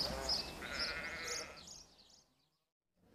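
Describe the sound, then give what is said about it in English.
Sheep bleat loudly, a drawn-out wavering call lasting over a second, with overlapping bleats and rustling that fade into near silence. “And then, are you okay to help me move the sheep back to the field?”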